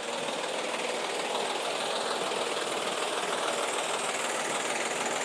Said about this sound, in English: So for instance, it sounds like the van or something, like that lorry or van over there running its engine.